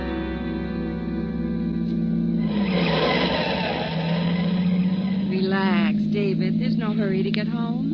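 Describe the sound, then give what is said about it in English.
A car engine drones steadily in a mess of traffic, its pitch dipping and rising as if idling and creeping forward, with a rushing noise and voices starting up over it toward the end; from the radio play On a Country Road on Suspense. “In this mess of traffic.”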